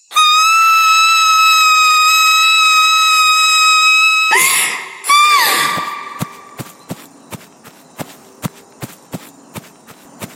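A loud, piercing scream held at a steady high pitch for about four seconds, then a couple of harsh breathy bursts, followed by a steady run of quick, light footsteps.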